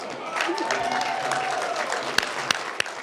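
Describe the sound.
A crowd at an event applauds as a painter on stage unveils a painting made during the event, with dense, steady clapping and scattered cheering voices, a few sharp louder claps popping out near the end.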